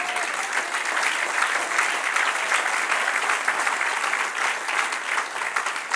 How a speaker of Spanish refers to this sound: Ahora déle otro aplauso al Señor.